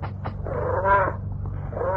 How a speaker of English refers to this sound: It gets in through the window sometimes. The advantage of having a first-floor apartment. Okay, kitty, take it easy. Kitty?